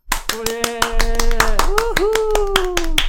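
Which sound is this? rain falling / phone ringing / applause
applause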